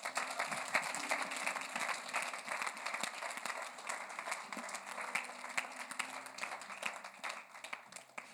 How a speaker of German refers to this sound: Wer hat was empfangen heute Morgen? Wollen wir Jesus mal einen Applaus geben dafür?